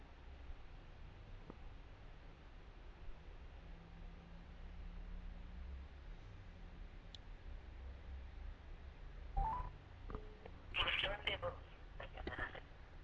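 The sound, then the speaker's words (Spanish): A short run of quick electronic phone dialing tones near the end, as a cell phone is called on speakerphone, heard over a steady hiss, each beep brief and close together. “Te hablo al celular.”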